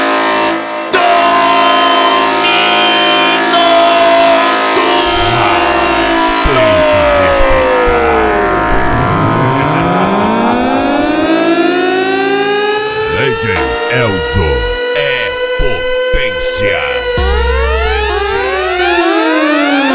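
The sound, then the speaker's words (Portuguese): A loud, blaring horn wails continuously, its pitch sweeping up and down in long swooping arcs like a siren, with a brief low rumble near the end. “LTS, a corneta do racha.”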